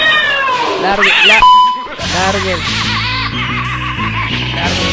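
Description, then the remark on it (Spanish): A cat meows a couple of times in quick, rising and falling cries, followed by a bright ding and then a busy stretch of voices and music. “Lárguese, gato, ¿no ve que es?”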